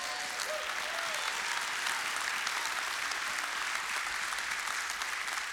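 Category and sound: crowd, audience clapping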